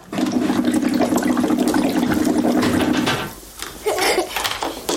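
Continuous bubbling gurgle of air blown through a straw into a drink, lasting about three seconds, then a short pause and a softer burst of bubbling.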